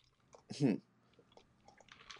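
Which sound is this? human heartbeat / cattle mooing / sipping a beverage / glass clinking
sipping a beverage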